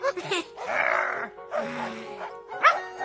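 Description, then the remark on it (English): A dog named Craggy, presented as a were-dog for Halloween, gives rough, drawn-out growling barks and howls: two long loud bursts followed by a sharper, higher yelp, with no talking over them. “He's a were-dog. He's not wearing anything special.”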